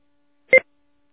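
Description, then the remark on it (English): A single short telephone keypad tone, one crisp dual-pitched beep lasting about a tenth of a second, heard clearly against silence, as a phone call is made from Maryland. “The link is down in Beaumont, Texas, and I'm here in Maryland, so I got to make a phone call.”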